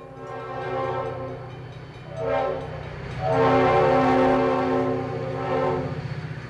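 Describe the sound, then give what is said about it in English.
A train to or from Tennessee rumbles past in Athens, Alabama, its horn sounding in long, loud harmonic blasts that swell and fade over the low steady roar of the cars. “where the trains to and from Tennessee seem to run all day long”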